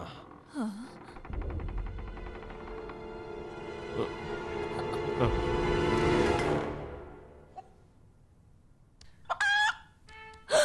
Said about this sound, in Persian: اون یه مرغه. تو گم شدی کوچولو. آره حتما گم شدی. قیافش رو ببین.